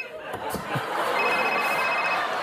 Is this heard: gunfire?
no